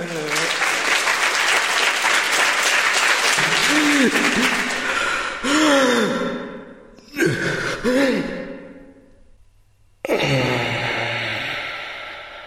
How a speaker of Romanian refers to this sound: Haideți să-l aplaudăm!